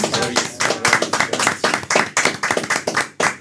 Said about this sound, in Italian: Facciamo un applauso.